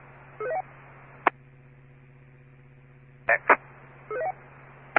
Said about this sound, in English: All I'm getting is static.